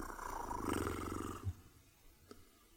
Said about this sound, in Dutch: Eindelijk hoor ik hem. Echt zo'n rollende ratel. Ja. Weet je, zo dezelfde tempo als die snor, hè?